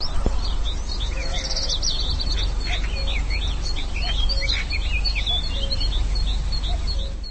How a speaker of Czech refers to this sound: Možná jsme mohli v ukázce zaslechnout i zpěv skorce vodního. Není to ale vůbec jisté, skorec nespívá nijak výrazně a navíc není v Česku zrovna nejrozšířenějším druhem.